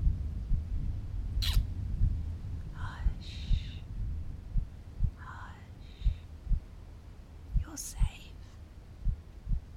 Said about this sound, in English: Just cuddle into Mummy. Listen to my heartbeat.